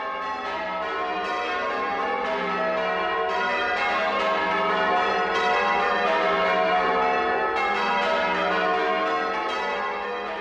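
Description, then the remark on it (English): Church bells peal continuously in overlapping, evenly paced strikes, their rich ringing tones blending into a dense, steady wash of sound. No voices are heard. “A great sound, bells ringing like that are lovely to feature bell ringing here on Spotlight.”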